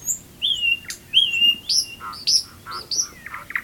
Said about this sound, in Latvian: Bet cauri visam šim cilvēku pūlim dziedāja putni un sevišķi izcēlās te vien netālu dziedošu lakstīgalu.